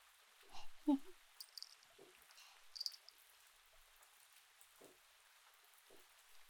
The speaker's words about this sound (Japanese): なかなか止まぬな。これでは雨宿りどころか泊まりになってしまうぞ。